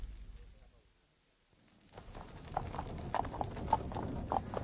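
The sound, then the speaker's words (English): A very expensive horse-drawn carriage with superb horses approaches, hooves clip-clopping in a steady rhythm over a low rumbling of wheels, starting after a brief quiet and staying moderately loud. “A very expensive carriage, superb horses and a liveried footman.”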